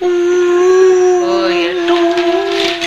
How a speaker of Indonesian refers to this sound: Bunyi kapalnya mas.